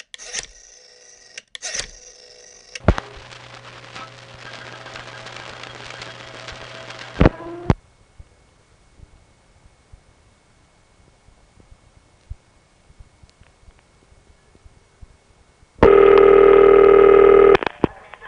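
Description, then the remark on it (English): An old telephone line places a long-distance call from the northern Midwest: short beeping tones, a steady buzzing hum, then a quiet stretch with faint clicks before a loud, harsh tone bursts in near the end. “Well, anyway, here's one from somewhere in the northern Midwest, I forgot where, but something happens on this phone call that did happen from my phone line every now and then when I called long distance.”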